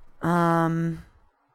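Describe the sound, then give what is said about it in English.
A single sustained, tonal yelp-like cry, fairly loud, held steadily for under a second before cutting off. It sounds like a human voice imitating an animal's yelp. “I mean, it wasn't a bark. It was kind of a yelp, but it was like, row!”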